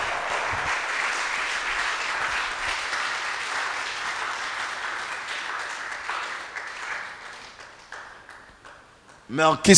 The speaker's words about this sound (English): Let the whole church clap. Let the whole church clap. Oh, can you continue clapping? Can you continue?